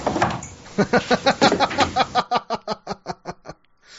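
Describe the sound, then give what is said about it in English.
A speakeasy door's small slot slides along with a rapid, ratcheting rattle of about fifteen evenly spaced clacks, loud, thinning out toward the end with no talking over it. “See, that's why you need the speakeasy door.”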